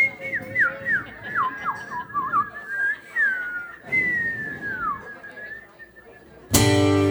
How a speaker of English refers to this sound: Chance to whistle. Everybody whistle.